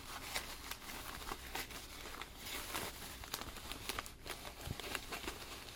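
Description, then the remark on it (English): Steady, irregular crinkling and rustling of thin tissue paper, with brief sharp crackles scattered throughout as a gift is unwrapped and the paper pulled apart, no voices. “Don't you make a mess with all that tissue paper.”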